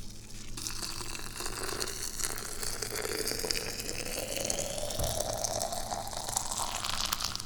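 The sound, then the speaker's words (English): Boiling water is poured one-handed into a teapot already holding tea, a continuous splashing stream whose pitch rises gradually as the pot fills, lasting several seconds with no talking. “And I already have all the tea and everything in the teapot. So we just need to execute the one-handed pour.”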